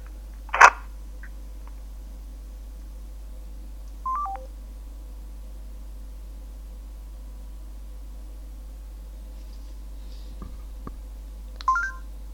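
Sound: telephone number being dialed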